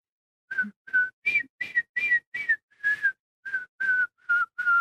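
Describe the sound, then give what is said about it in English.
A person whistles a string of about eleven short, separate notes, the pitch hovering with slight rises and dips, like a halting attempt at a tune, with no talking. “I can't whistle songs, I guess. I'm below average.”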